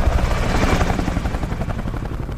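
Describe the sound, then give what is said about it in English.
A helicopter arrives with a roar, its rotor blades chopping in a rapid steady rhythm over a deep engine rumble, loud and continuous with no voices. “the signature sound of American troops in battle is the arrival of the helicopter”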